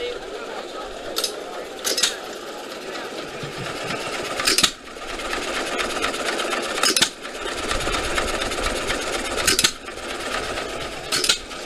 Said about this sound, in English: So the engine only fires based on load, so there's really no load on it right now. So we're getting one off maybe every 2 seconds or so, maybe 3. You can't beat it. No, you can't beat that. These giant flywheels keep this thing moving.